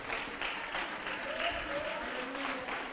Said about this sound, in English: Let's clap our hands and love the Lord in this place.